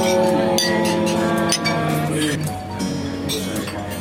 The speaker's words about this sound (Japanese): それでは、カリーで沖縄に合わせた、乾杯をさせていただきたいと思います。それではカリー カリー。